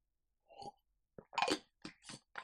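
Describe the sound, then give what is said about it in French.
A small sip of a drink: a soft clink of a glass, then a few short slurping and swallowing noises in quick succession, with no talking. “Je prends une petite gorgée de play et je développe la suite.”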